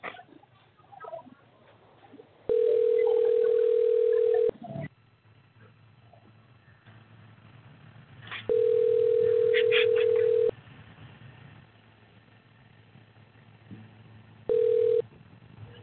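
A telephone ringback tone pulses while a call goes through: steady two-second tones separated by longer pauses, three rings in all, the last cut short, over faint background noise.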